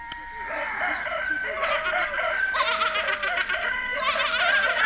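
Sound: roosters crowing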